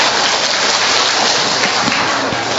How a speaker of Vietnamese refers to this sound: Cho một tràng pháo tay hoan hô người đàn ông.